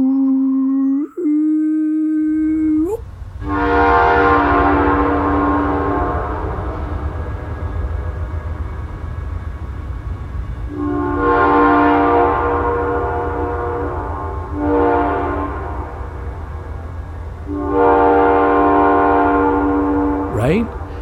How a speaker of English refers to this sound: in the old days, it wasn't a button, but it was a cord that would blow the train whistle, and the engineer would actually sign the air, and different engineers would know the signatures of other engineers